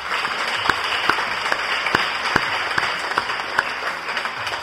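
Audience applause for a group of authors, a steady wash of many hands clapping with a few sharper, louder claps standing out at regular moments, sustained throughout.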